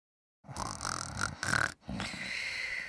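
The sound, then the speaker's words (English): A voice imitates the snoring of Sam Sheep, a sheep character in a children's story who is fast asleep, with two drawn-out, rasping snores, the second breath following a brief pause, loud with no other speech. “Snores Sam Sheep, still fast asleep.”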